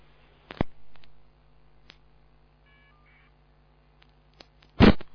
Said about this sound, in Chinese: 这个电话机怎么搞的？这要按这个了。